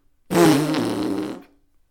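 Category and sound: sound effect, fart sound effect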